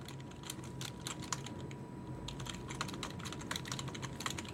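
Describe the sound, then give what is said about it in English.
Rapid clicking of computer keyboard keys, a steady stream of crisp keystrokes with brief pauses, over a faint low hum and no voices. “I like the sound of these keys.”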